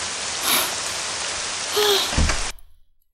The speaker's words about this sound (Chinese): 天哪，下雨下的可真是又大又突然，全身上下都淋湿了。真大呀，这雨点打的身上生疼生疼的。